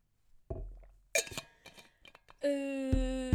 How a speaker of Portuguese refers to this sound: Vou beber água, calma.